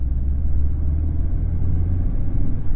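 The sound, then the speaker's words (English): The O'Leary family's car drives steadily along a road on the way to their home, its engine a low, continuous rumble heard from inside the vehicle, with no voices and no change in pace for a few seconds. “Now, as I said earlier, the O'Leary family has just gotten into their car and are on the way to their home.”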